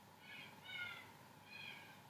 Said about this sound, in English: Birds in the distance.